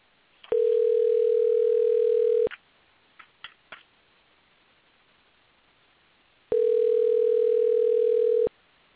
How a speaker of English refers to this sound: It's dialing. It's dialing. This time it dialed through. The last two turns it didn't.